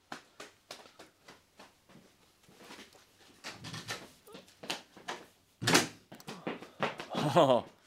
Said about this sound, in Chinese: 你开门请佢入嚟啊。